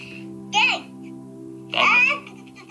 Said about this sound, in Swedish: Alltså det var bebisen.